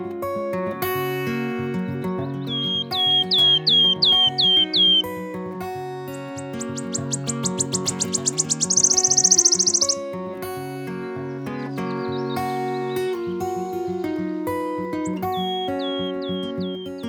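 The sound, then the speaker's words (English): A small songbird, bright yellow above and white below, weighing little more than a pound coin, that migrates from Africa to breed in the Atlantic Oakwoods of the western UK, gives a run of thin, quick notes that speed up into a bright, shivering trill, like a coin spinning to a stop, heard clearly over soft background music. “Their song sounds a bit like a coin spinning on a table”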